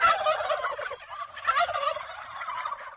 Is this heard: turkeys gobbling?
yes